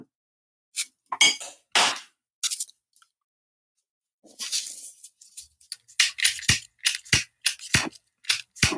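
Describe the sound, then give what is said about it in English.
A lighter that is out of fluid being flicked over and over without catching: sharp, bright metallic clicks and short raspy scrapes in an uneven series, speeding up toward the end, with no voices. “I can tell that boy out of fluid. You already clicking, right?”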